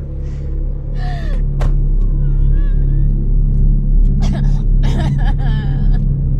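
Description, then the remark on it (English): A car engine rumbles steadily and low throughout, with a single sharp thud as a car door is closed early on. Someone gasps and whimpers over the idling. “pulls a punch before closing the car door.”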